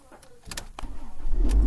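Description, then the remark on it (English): A car engine starts up: a few short clicks and a whirring crank give way to a low rumble that grows louder and steadier toward the end. “You want me to start the car, Dad?”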